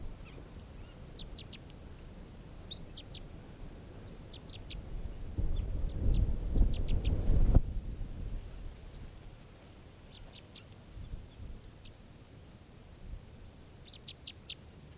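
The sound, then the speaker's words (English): A bird being recorded gives odd, very low-pitched type 3 variant calls in short, faint bursts of two to four clipped chirps, repeating throughout over a steady low rumble that swells briefly in the middle. “Really weird calls here.”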